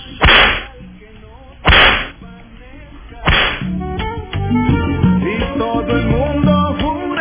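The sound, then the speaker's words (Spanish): Three loud, sharp whip cracks snap out at slow, even intervals, each one a sudden lash that fades quickly, followed by a busy musical backing that continues to the end. “Ahí está con todo la fábrica. Latigazos.”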